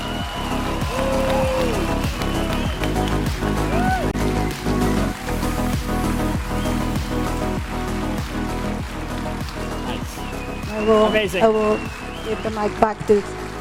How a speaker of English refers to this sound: these are the people who made that magic happen. So please give them big round of applause.